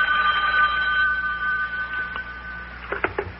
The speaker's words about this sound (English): Uh-oh, telephone's ringing. Telephone's ringing, Big John. Yeah, I know. I heard it. I'll get it.